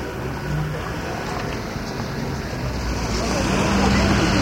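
A steady wash of city traffic in Lyon, cars rumbling past in a continuous low roar that swells slightly toward the end, with no distinct voices standing out.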